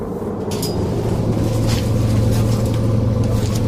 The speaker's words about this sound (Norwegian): Vi hopper av en buss utenfor Hokksund, utenfor Drammen.